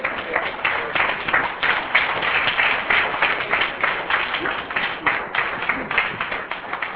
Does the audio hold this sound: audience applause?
yes